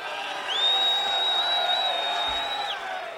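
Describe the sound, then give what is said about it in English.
A rowdy concert crowd in Seattle roars and whoops in a dense, steady wash of noise, with one long, shrill whistle piercing through for about two seconds. “I mean, I could actually say I've been up here a lot of times and I've never seen this fucking aggressive of a crowd in Seattle.”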